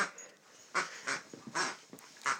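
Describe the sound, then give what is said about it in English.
A dog named Iris chews on a duck-shaped squeaky toy, a Christmas present, producing a quick series of shrill, honking squeaks in uneven bursts, with no talking. “So that's Iris squeaking. A duck.”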